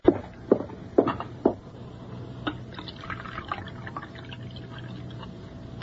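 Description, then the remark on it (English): Coffee is poured into a cup after four quick china clinks, the liquid trickling steadily for a few seconds, fairly quiet, with no talking. “Then you'd better pour him a fresh cup, hadn't you?”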